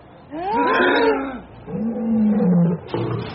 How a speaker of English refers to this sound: Listen to those ugly brutes. They've been fed on nothing but toast and water for 3 weeks. Let loose the lion!